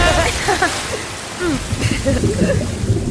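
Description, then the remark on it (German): Water churning and splashing after a cannonball jump: steady watery hiss with many quick gurgling, bubbly burbles rising and falling for about three seconds, moderately loud, with faint voices mixed in. “Wir springen jetzt aber. Zur Seite. Okay. Yippie! Arschbombe!”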